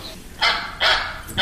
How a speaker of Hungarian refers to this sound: Egy kacsa. Nagyon jó.